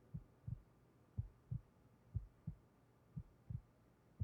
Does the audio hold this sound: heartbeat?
yes